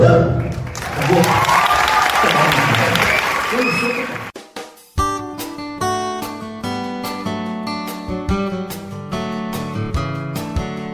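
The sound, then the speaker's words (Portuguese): A loud burst of audience applause with cheering voices at SESC dance, theatre and music performances in Paraná fills the first few seconds, then cuts off and gives way to music with steady notes and sharp rhythmic beats. “Vidas transformadas, seja por meio da educação com oferta de ensino nos colégios SESC ou por meio do acesso à cultura, com apresentações de dança, teatro, música e muitos, muitos aplausos.”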